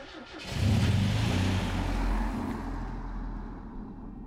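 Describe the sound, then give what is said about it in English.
A fancy car's engine roars, revving as the vehicle pulls off, then the rumble steadily fades as it drives away. No voices are heard. “That's a fancy car Sam's got there.”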